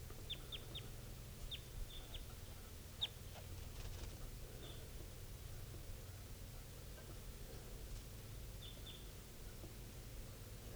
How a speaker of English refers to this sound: Recording this wild bird, adult male, is just flying around low near the cages of the birds. Not calling right now, but this is the wild bird.